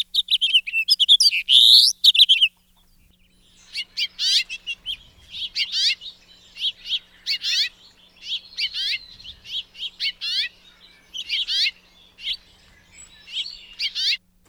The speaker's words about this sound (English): All right, closing out the backyard birds, the city birds, here is the second to last one, the house finch.